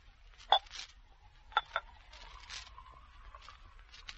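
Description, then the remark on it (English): Coca-Cola being poured from an opened bottle into glasses with ice, a soft, steady fizzing hiss broken by a few sharp glassy clinks, two close together in the middle and one near the end, with no voices. “Pour out the Coca-Cola.”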